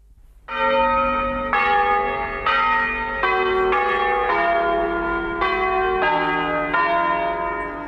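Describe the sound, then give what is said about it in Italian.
Church bells of Pazzalino ring out in a steady peal, strikes arriving about every half second to a second, each leaving a long, shimmering tone that overlaps the next. Loud, with no voices. Used as the opening signature of a radio broadcaster's transmissions, still aired at 6 in the morning. “Campane di Pazzalino, qualcuno l'avrà sicuramente riconosciuto come riconosciute, come sicuramente tanti di voi avranno riconosciuto la sigla che apriva le trasmissioni della nostra emittente.”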